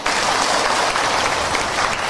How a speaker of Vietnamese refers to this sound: Cho chàng pháo tay.